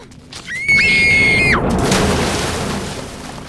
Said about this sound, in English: The two girls fight on the slippery rocks, then fall into the pond.